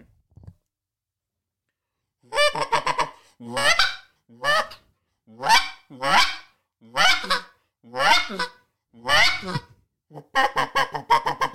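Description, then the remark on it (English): An imitated Eastern wild turkey hen call: a loud series of about a dozen raspy, nasal yelps in a steady rhythm, quickening slightly toward the end, with no talking. “This is my hen call, Eastern Wild Turkey.”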